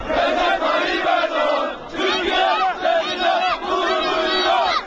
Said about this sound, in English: Recep Tayyip Erdogan, Turkey is proud of you, the world is proud of you, a crowd that numbered 5,000 chanted while the Prime Minister's plane was landing.